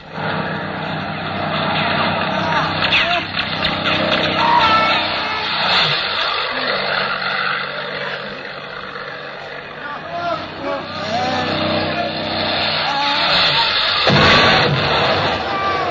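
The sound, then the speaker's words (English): Loud, continuous roar of two airplanes diving overhead in the desert, engine pitch swooping up and down, with a sharp burst near the end as they hit a truck. Voices shout faintly beneath the din. “Look, the plane! There are two of them!”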